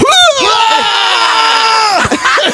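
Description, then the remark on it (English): A person loudly imitates a scream vomiter, someone screaming while throwing up: a sustained, strained, retching howl with gagging breaks, ending in a few sputtering heaves, alone. “It was just, oh God, have you ever heard a scream vomiter?”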